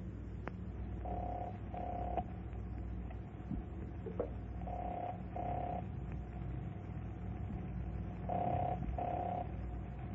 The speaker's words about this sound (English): I can hear the number ringing, but apparently no one's there to answer.